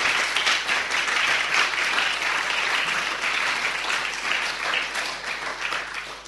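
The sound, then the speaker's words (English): Sustained audience applause for poets at a poetry reading, a dense, steady wash of many hands clapping at an even loudness for several seconds, with no voices standing out. “So let's have another round of applause for our fabulous Vazopoulos poets.”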